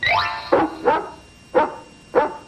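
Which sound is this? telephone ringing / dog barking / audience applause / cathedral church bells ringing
dog barking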